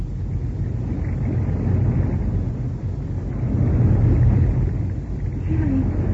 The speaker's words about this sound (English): Jerry and Joan are now badly frightened as they hear the rushing of water outside the elevator shaft